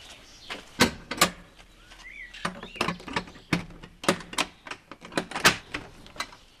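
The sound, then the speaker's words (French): A heavy wine cellar door at a vineyard in Slovenia being wrestled open by a Slovenian man: an irregular run of clunks, knocks and latch rattles, with a short squeaky creak partway through and no voices. “Ah, il fallait un Slovène pour l'ouvrir cette porte.”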